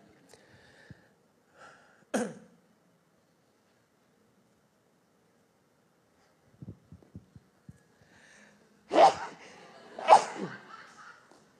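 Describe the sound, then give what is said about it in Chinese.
Loud, close sneezes: a sharp burst early on, then two strong sneezes in quick succession near the end, with a few soft thumps and breathy noises in between and no talking. “我不是感动，我是刚想打喷嚏，我怕你误会。”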